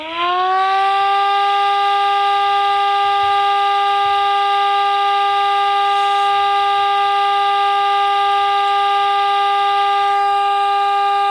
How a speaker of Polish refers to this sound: Jeżeli chodzi o odwołanie alarmu, jest to taka sama syrena, tylko dźwięk jest ciągły, więc nie mamy tutaj tej modulacji, a dźwięk brzmi mniej więcej w ten sposób.